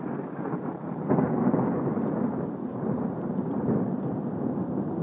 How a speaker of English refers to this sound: I hope that thunder's coming through on the shot. Just starting to get a little rain on me, in fact, too.